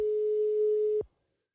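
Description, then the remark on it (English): A single steady electronic ringing tone on a phone call to a pub in Helsinki, Finland, one plain pitch held for about a second before cutting off into silence. No voices are heard. “A bartender named Janne answered the phone at St. Urho's pub in Helsinki”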